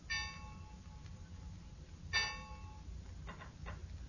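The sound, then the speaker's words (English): A bell strikes eight o'clock with slow, resonant chimes about two seconds apart, each ringing out and fading, followed by a couple of fainter strokes over a low background rumble. “Six. Seven. Eight. Oh, it must be seven.”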